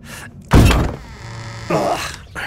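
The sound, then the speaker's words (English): A heavy door hidden behind a plant thuds open into a cellar with a deep, loud impact, followed by a low creaking groan and a second softer bump as it settles. No voices. “And look, another door. I knew there was something behind that plant.”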